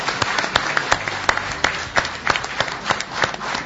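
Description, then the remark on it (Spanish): An audience seated in a radio show's studio audience hall applauds, steady clapping from many hands forming a dense, crackling wash with sharper individual claps popping out, moderately loud and without talk. “Un aplauso también para ustedes mismos que del otro lado del receptor o aquí sentados en la fonoplatea la hacen posible, la siguen.”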